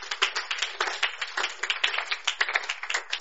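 A crowd claps for the Lord Jesus in a steady, rapid patter of many overlapping hand claps, fairly loud and continuous for several seconds with no voices over it.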